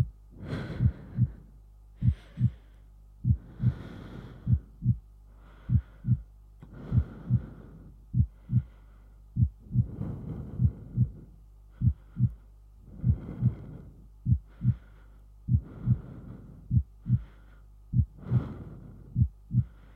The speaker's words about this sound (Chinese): 知道我们家小薇最喜欢这样了，把小薇紧紧地抱在怀里，听着我的心跳声在小薇的耳边扑通扑通地跳着，是不是很有安全感呢？